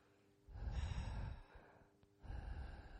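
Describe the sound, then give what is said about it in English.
A voice imitates light sleep breathing close to the microphone: two soft, airy breaths, a long exhale followed by a pause and another breath, with no talking. “Unless it just did light breathing on the microphone, it would have sounded weird.”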